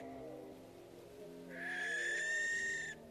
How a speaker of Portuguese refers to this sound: Estamos cara a cara com a coruja das torres. Um momento maravilhoso que nos remete para os contos infantis.